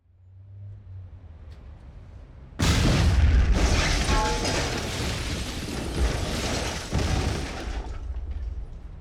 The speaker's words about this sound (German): In der Innenstadt explodierte die Fassade eines ansonsten unverdächtig aussehenden Bürogebäudes. Eine dunkle Rauchwolke stieg entlang der Hausfront nach oben.